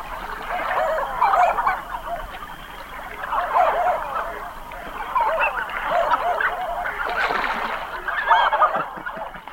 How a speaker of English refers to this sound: If you guessed a canvasback, you're right. Canvasbacks breed on water bodies in the prairies of Canada and the northern United States. But they winter further south in the U.S. and in Mexico, with one concentration in the Chesapeake Bay area.